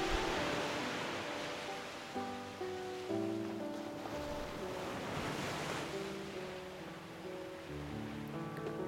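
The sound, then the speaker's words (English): Ocean waves wash and break in a steady, rolling hiss that swells and recedes, with sustained soft musical tones playing throughout. No one speaks. “Hear the sounds of the waves, the rhythm of the ocean.”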